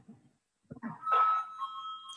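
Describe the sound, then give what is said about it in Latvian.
A bright electronic bell rings out clearly, holding one steady tone for about a second after a brief stretch of soft shuffling and low murmur, rung in the chamber of the Latvian parliament (Saeima) before a vote. “Paldies, lūdzu zvanu.”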